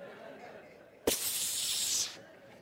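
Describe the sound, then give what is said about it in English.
A voice imitates a viper with one sharp, sustained hiss lasting about a second, starting abruptly with a burst and fading out, fairly loud against a quiet background. “And that as soon as that is brought up, that viper comes up like this.”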